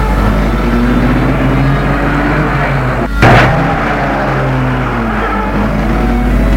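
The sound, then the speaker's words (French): A car engine rumbles steadily and loudly as the car drives away into the night, with low droning tones, broken once midway by a sharp thump before the motor carries on. No one speaks. “remonte la vitre. Et la voiture s'éloigne.”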